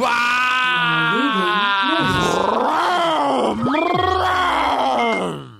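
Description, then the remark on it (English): A man's voice imitates a motorcycle engine with a loud, buzzy, continuous drone, its pitch wobbling, then revving up and dropping in several swoops over about five seconds. “Do a motorcycle more for me.”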